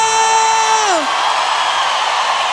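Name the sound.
audience shouting and cheering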